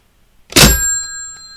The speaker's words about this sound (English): That was me slamming down my phone. My 1970s-era phone.